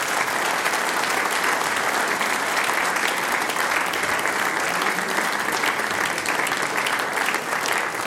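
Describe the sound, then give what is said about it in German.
An audience gives a band sustained applause, a dense, steady wash of many hands clapping at an even loudness for the full stretch, with no voices standing out above it. “Das ist euer Applaus.”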